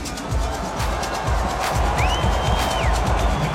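A large stadium crowd at the Rio Olympic opening ceremony roars with a dense wash of booing at the entry of the Russian delegation, while a shrill whistle rises and holds a steady high pitch for about a second before dropping away, over constant crowd noise.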